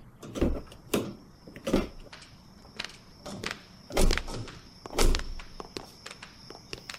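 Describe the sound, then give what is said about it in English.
Several thuds and clunks of a police squad car's doors opening and shutting as people climb out, with rustling movement between them and a thin, steady high chime ringing through. No one speaks. “Now let's get out of this car.”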